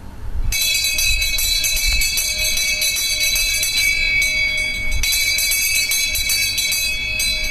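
An electric school bell starts after a brief pause and rings continuously, loud and shrill, with a steady metallic clatter that carries on to the end without any voices.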